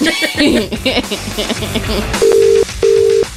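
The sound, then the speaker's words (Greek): A busy jumble of sound gives way to a telephone ringback tone: two steady, evenly spaced beeps on the line, clear and fairly loud, as an outgoing phone call is placed and connects. “Θα πάρουμε κανένα τηλέφωνο ή θα μιλάμε για τα μαλλιά μου.”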